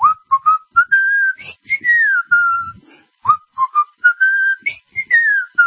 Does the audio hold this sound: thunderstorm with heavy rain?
no